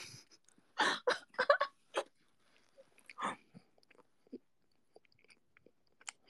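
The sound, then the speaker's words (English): Wet chewing and crunching of pizza, with a burst of several loud bites early on, then scattered softer mouth clicks and smacks in otherwise quiet surroundings. “Because we can hear you getting full blown Kirby on that pizza.”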